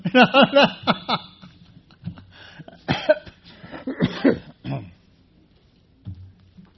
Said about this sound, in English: I'm going to have to start out by saying that I have a cough that I have problems getting rid of, kind of a bronchitis-like. So if I get to laugh and get to cough, then you'll understand.